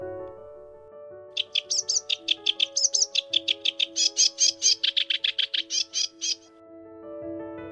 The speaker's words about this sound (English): Sedge warblers are often perched in scrubby vegetation, singing at the top of their voices to attract a mate. They also perform a fetching parachuting display, rocketing up from their perch as they sing. Listen out for this.